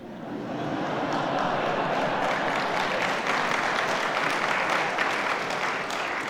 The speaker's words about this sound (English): It's kind of you to clap, you know, but it proves nothing.